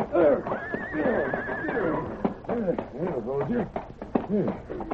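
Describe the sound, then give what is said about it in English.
The horse Silver lets out a loud, quavering whinny, followed by quick, uneven hoof clops and snorting as it moves about, with voices underneath. “Not so fast, horse.”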